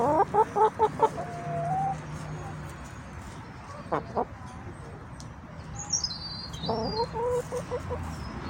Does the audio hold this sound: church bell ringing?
no